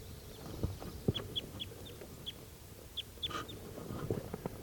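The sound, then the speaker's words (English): Birds near a bird-catching net give a string of short, high chirps, about a dozen spread unevenly over a few seconds, with a few soft low thumps and rustles underneath. No one speaks. “One more bird has been caught.”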